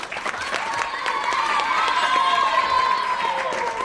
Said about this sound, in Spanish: ¡Claro, pues lo has conseguido! ¡Un aplauso!